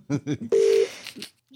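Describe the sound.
A short burst of steady telephone ringing tone sounds once over a faint line hiss, briefly preceded by a voice.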